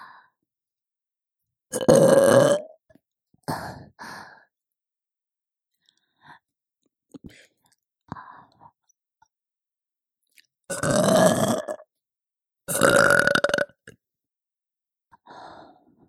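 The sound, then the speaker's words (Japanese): A mother gives a few loud, drawn-out burps with long quiet gaps between them, followed by a couple of softer, shorter belching sounds. “久しぶりのママゲップ、嬉しい？”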